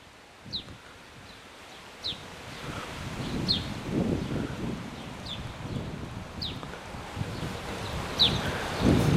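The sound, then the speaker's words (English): Wind rushes through trees on a windy day in northeastern France, in steady, surging gusts, leaves rustling broadly, while a bird chirps faintly at regular intervals. No one speaks. “I hope you hear the wind through the trees right now.”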